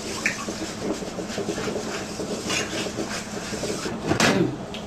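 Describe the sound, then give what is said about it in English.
A pot of zucchini and squash bubbles and simmers in water over medium heat, a steady, continuous boiling hiss with soft pops and occasional clinks, with no one talking. “So we let the vegetable boil there in medium heat, huh?”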